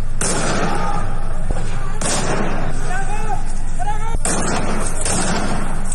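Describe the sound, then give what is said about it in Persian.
Three sharp, loud gunshots crack out about two seconds apart, echoing over a noisy crowd of shouting voices in a street, as security forces fire on protesters in Sanandaj, Kurdistan province. “ویدیوهایی که منتشر شده نشان می‌دهد معترضان با آتش زدن لاستیک و سطل‌های زباله تلاش می‌کنند جلو ورود و پیشروی نیروهای انتظامی را بگیرند و در مقابل نیروهای امنیتی به سوی مردم شلیک می‌کنند.”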